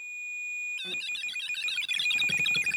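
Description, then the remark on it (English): A handheld electromagnetic field detector, resembling a transistor radio with a very long antenna, sounds its alarm: a steady high-pitched whine, then a loud, rapidly warbling, chirping electronic tone that bursts in and keeps going, with no one talking. “It's a detector. It's an alarm that if something comes close to it, like a spirit.”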